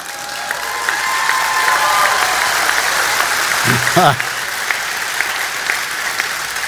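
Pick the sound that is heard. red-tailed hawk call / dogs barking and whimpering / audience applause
audience applause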